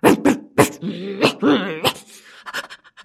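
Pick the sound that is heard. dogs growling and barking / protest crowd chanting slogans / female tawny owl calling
dogs growling and barking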